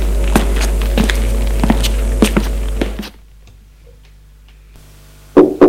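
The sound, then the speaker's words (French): Two or three loud, sharp knocks on a door in a château at night come abruptly near the end, after a steady ticking over a low hum fades into near silence. “On a frappé à la porte, entrez.”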